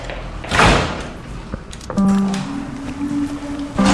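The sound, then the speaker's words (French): A small door leading to a courtyard is opened and shut with a rattling thump and a latch click. A steady electric buzz follows, droning for a couple of seconds and briefly returning at the end. “Voilà, il y a la petite porte qui mène jusqu'à la cour.”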